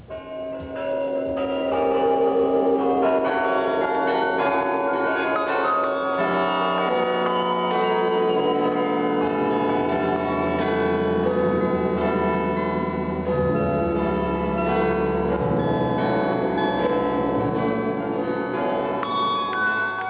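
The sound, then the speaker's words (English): Loud, steady bell chimes ring out in sequence, their tones overlapping and sustained with a resonant hum, one short signal blending into the next with no voices: five radio station interval signals from Swaziland, Russia, the Netherlands, the UK and the Vatican. “you'll hear interval signals as used by Trans World Radio Swaziland, Voice of Russia World Service, Radio Netherlands, BBC, and Vatican Radio”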